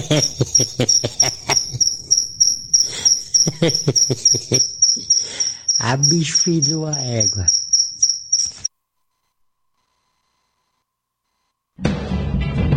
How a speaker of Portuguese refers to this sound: Agora lascou. Um grilo cantando bem aqui no meu quarto.